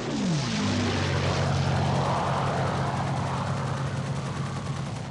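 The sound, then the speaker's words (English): A loud roar of low-flying German propeller warplanes on June 22, 1941, shooting at fleeing people, the engine drone dropping in pitch as they sweep overhead, then a sustained rumbling growl with a rattling edge. No voices. “Their planes flew in low and shot at people trying to save themselves.”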